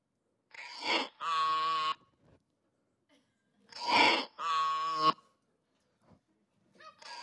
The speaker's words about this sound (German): Ein Esel, genau. Esel, endlich, jetzt kommen wieder Geschäftsleute vorbei.